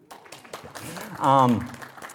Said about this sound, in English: So, I get to lead worship with this great band. Applause for the band.